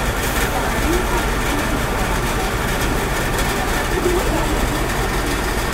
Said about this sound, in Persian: ماشینش خرابه، غرغر میکنه.